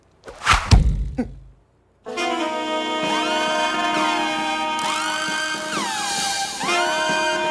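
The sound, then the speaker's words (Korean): A quick rushing whoosh ends in a hard, solid thunk as an arrow carrying a note strikes home, flying at night into the inn where Park Mun-su is staying. A short silence follows, then steady music with gliding, bending tones carries on to the end. “그날 밤 박문수가 묶는 주막으로 화살 하나가 날아들었다.”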